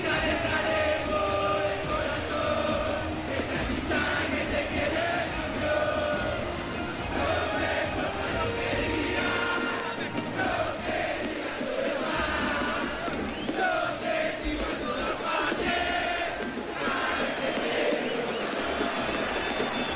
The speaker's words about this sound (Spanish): este recibimiento estruendoso que se escucha por los micrófonos de Ambiente en Radio Provincia de Buenos Aires. Ahí está el matador de Victoria.